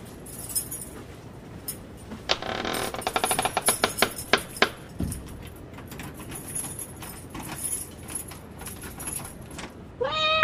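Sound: cat meowing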